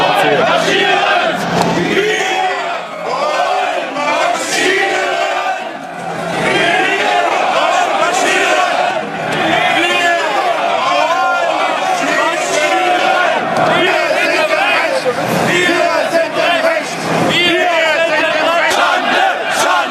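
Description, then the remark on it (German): A loud crowd bellows chants together at a Nazi demonstration in Dresden, where Landolf Ladig (Höcke) was seen joining in. Many voices roar in repeated rhythmic bursts that swell and dip briefly, with continuous shouting and jostling noise throughout. “Landolf Ladig hier wurde auch auf Nazidemos gesichtet und hat damit gegrölt, wie hier in Dresden.”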